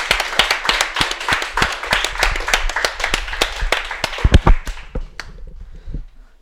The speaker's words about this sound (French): Vous êtes une excellente chanteuse. Vous avez mis du cœur à l'ouvrage. Alors on va dire que c'est réussi. On l'applaudit.